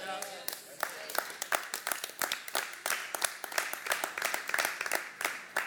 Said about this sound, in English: Man, these eight people really did a good job clapping.